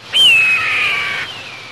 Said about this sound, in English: Yeah, that is a red-tailed hawk.